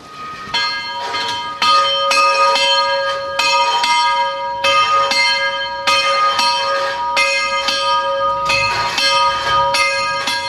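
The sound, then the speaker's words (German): A church bell, automated in the 1970s, is rung by hand by a bell-ringer pulling its rope; it swings and tolls repeatedly at a loose, uneven rhythm, loud, each stroke ringing with bright overtones that blend into a continuous hum. No one speaks. “ein sehr sinnlicher Klang von einer Glocke”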